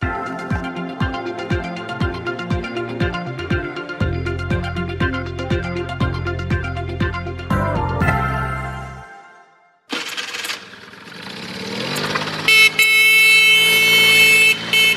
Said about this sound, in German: Noch vor gut 20 Jahren war das Musik in den Ohren von vielen Jugendlichen. Der Lärm oder vielmehr der Sound von einem Mofa. Fast jeder hat eins gehabt und auch gerade noch frisiert.